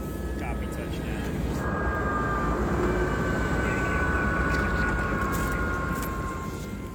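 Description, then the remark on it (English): A helicopter, the way tour groups are flown up onto a glacier, roars steadily, its engine whine and dense, rapid rotor thrum holding at an even, loud level throughout without fading. “And there's practically only one real way to get there on a given day for a tour like we would guide, and that's by helicopter.”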